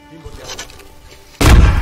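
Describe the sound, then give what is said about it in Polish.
A video game explosive arrow, which the player shot at himself, detonates in a sudden, loud booming blast near the end, following a stretch of quieter muffled game ambience with faint voice-like sounds. “A daj mi wybuchową strzałę.”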